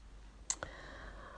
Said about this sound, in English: I can hear my teapot has unclicked itself. Not my teapot, my kettle. So it is now hot enough to pour in.